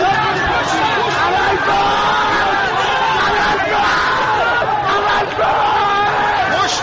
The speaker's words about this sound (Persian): اینجا محل درگیری میان معترضان و نیروهای ضد شورش است. چند نفر در میان جمعیت به سمت پل اشاره می کنند و ناگهان جمعیت هراسان و فریاد زنان به طرف پل می دوند. یک نفر از بالای پل به پایین پرتاب شده است.